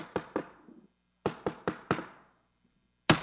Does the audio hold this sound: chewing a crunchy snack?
no